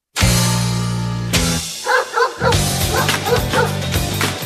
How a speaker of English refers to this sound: Is that dog? Did you bring your dogs to work? No. What was that?